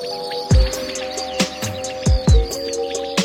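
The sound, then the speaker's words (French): A common quail calls in short, sharp bursts repeated every second or so, loud, over the continuous high trilling of field crickets filling the background, in a rapeseed field area with a small meadow. “Et puis enfin, dans cette zone de colza avec une petite prairie, là, c'était très commun, la caille des blés. Et puis beaucoup de grillons aussi, les champs des grillons, ça prenait tout l'espace.”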